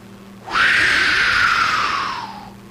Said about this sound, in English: Are those horses having sex? Yes. What? Out there in the open, like I got. Isn't there a barn that they can be taken to? This is obscene.